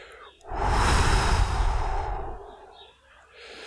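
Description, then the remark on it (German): A single long, deep exhale after holding the breath in a breathing exercise, fairly loud, a broad airy rush that swells quickly and slowly fades out over about two seconds, with no talking. “Und dann atmen wir aus.”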